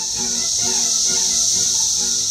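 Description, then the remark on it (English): A dense, unbroken chorus of Brood X periodical cicadas, which emerge every 17 years, drones loudly and steadily in spring, a high shimmering buzz with a lower wavering whine pulsing beneath it, like a massed cicada swarm. “As you may have heard, the momentous hatching of Brood 10, a collection of cicadas that happens every 17 years, is back.”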